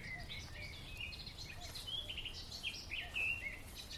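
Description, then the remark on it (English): Birdsong in the open: a chaffinch and a blackcap sing overlapping phrases of bright chirps and warbling trills, the blackcap the more melodious, over a low rumble of background ambience. “We've got a black cat and a wren and a chaffinch. The more melodious one is a black cat.”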